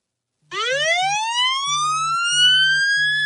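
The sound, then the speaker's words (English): A police siren ringtone, the phone ringtone set for calls from Tony Khan, bursts in abruptly and sweeps upward in a loud rising wail, with a low buzzing pulse throbbing underneath in short, uneven bursts. “I had to come up with a ringtone for Tony that would wake me up.”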